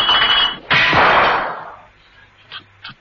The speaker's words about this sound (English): Mrs. Peel tripped over an empty bottle.